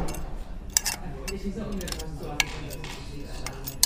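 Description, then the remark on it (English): The innards of a very old telephone are fiddled with during a scene, in time with an actor, to mimic mending an alarm clock: irregular sharp metallic clicks and light tinny ticks, a few louder snaps, over a low, muffled murmur. “So I have the innards of a very old telephone here.”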